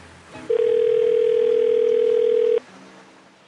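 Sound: telephone dial tone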